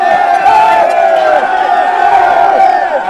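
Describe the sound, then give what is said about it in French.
A dense, loud crowd of cycling fans on a summit roars and cheers continuously as their star rider passes through, with overlapping shouts and yells rising and falling throughout. “Les frissons, le bruit, les cris, les larmes, l'idole fend la foule.”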